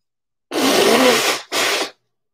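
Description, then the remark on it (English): Someone blows their nose during allergy season in Oklahoma, in two loud, rasping bursts: a long honking blast with a fluttery low buzz, then a short second puff, with no talking. “I'm gonna blow my nose real quick.”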